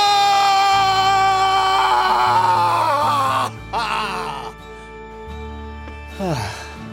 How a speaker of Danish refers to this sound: Din motivation er, at du skal give slip i... I alt. I simpelthen alt. Okay. Det er sådan en primal scream.